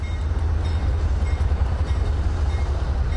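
Train cars rumble past at a rail yard in Commerce in a steady, heavy low roar with a faint metallic hiss above it, continuous, with no voices.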